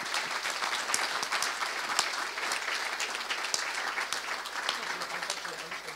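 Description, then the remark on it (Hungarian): A steady burst of audience applause for the journalists of the Hungarian newspaper Magyar Hang. Many hands clap densely and evenly for several seconds with no pause, bright and fairly loud throughout. “Reklám nélkül, kormányzati támogatás nélkül, simán csak szürkállománnyal, meg egy kis gógyival, szóval le a kalappal előttük ők a Magyar Hang még egyszer, ha egy tapsot megérdemelnek.”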